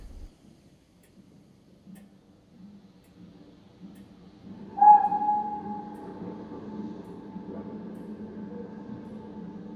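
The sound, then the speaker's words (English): The 1925 Express train rolls in, entering a track section, with a low rumble that builds, then a sustained horn-like tone sounds about halfway through over steady rhythmic clicking from the wheels. No one speaks. “1925 Express, entering section.”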